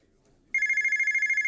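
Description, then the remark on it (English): A telephone starts ringing abruptly after a quiet moment, a loud, steady electronic trill with rapid pulsing, continuous until it cuts off. “The phone call.”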